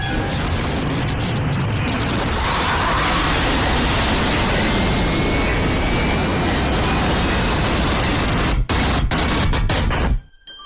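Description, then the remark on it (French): A loud, steady jet airliner engine roar with a high turbine whine fills the scene, continuous, then briefly stutters before cutting off abruptly near the end. “Jour où les 93 occupants d'un Boeing 727 de la TWA trouvent la mort dans l'écrasement au cours d'une tempête de la Pareille qui s'apprêtait à se poser à l'aéroport international Dulles de Washington.”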